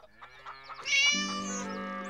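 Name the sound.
cat meowing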